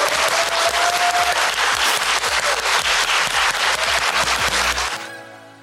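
Sustained applause from a group, dense overlapping claps filling about five seconds at a steady loud level before cutting off abruptly.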